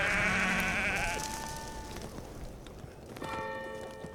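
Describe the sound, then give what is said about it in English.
A sheep bleats loudly with a wavering, drawn-out cry in the mountains, among jagged peaks, then things quiet down before clear ringing tones of a distant bell, chiming five past noon, rise near the end. No one speaks. “hustled to close the distance the cries of sheep guiding her way around jagged spur corners.”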